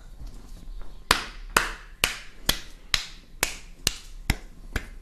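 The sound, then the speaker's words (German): A boy claps his hands in a steady, even rhythm, about nine sharp claps roughly half a second apart, fairly loud over a faint background hiss, with no talking. “der Junge klatscht in einer Tour, es geht mir so auf den Sack.”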